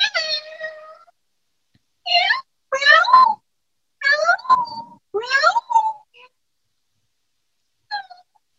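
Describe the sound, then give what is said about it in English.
A person's voice imitates a cat as a party trick, giving a series of drawn-out, wavering meows and short mews in quick succession, fairly loud, with a faint final mew after a pause. “My party trick is to imitate a cat.”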